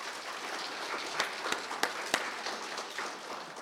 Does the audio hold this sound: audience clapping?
yes